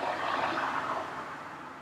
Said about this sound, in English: Hey, I recorded the car. That's crazy. Stupid car. You guys have a real classy apartment here with the cars driving by.